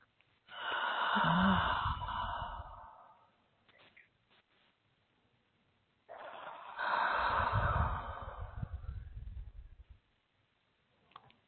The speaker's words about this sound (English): So keep breathing. Just breathe gently and just see that wall breaking down. Just see it softening. I'm breathing with you.